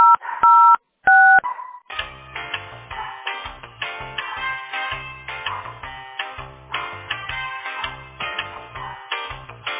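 Two quick touch-tone keypad beeps, clean dual-pitched tones, dial an employee's extension number on a call to the company Teploenergosbyt SPB, then hold music with a steady bass line takes over and plays on without a break.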